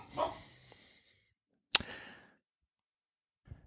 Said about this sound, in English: Yes, you did just hear a dog growling. That's our friend Blue. I tell Blue to say hi, but I'm afraid he then might.